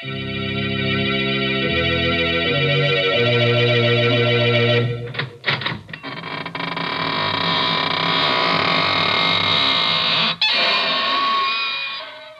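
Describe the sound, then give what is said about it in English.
The squeaking door of the Inner Sanctum Mysteries radio broadcast of September 4, 1945, creaks and groans loudly for several seconds with a rough, wavering pitch, following a few sustained organ chords and a couple of sharp knocks. “This is your host to welcome you through the squeaking door into a gay little world of homicidal maniacs, vampires, ghosts, werewolves, and assorted forms of sudden and gory death.”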